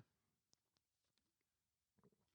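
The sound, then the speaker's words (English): Someone quietly sips water: a few soft, sharp mouth clicks spaced apart, then a low muffled gulp near the end, with no talking. “I'm going to take a sip of water here just for a second.”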